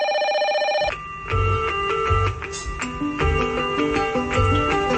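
A telephone rings briefly with a bright, warbling electronic trill for under a second, then gives way to loud music with a steady thumping beat and no voices.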